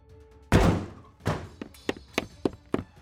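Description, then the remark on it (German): Heavy doors are thrown open roughly by a soldier storming in, bursting open with a loud thud, followed by a second bang and a quick series of smaller knocks and rattles as they settle. “Nicht nur, dass weit entfernter Lärm in den Raum fällt, als die Türen barsch geöffnet wurden.”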